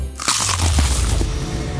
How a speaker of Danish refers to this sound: Det her var et forsøg på at tage en lydløs bid af den nye knasende kyllingeburger McCrispy. Desværre fejlede det.